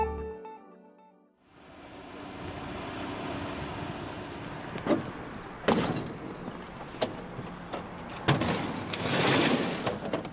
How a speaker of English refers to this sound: Each of the barrels they're loading into their pickup truck weighs about 80 kilograms, more than 176 pounds. He estimates that each barrel holds about 100 dead fish.